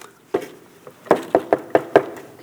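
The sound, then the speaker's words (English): Knocking on a dorm room door at the Gordon-Conwell dorms as a visiting father arrives: one sharp rap, a short pause, then five quick, evenly spaced knocks. Fairly loud wooden thuds with quiet room tone between. “So he comes up, and I hear the knock on the door.”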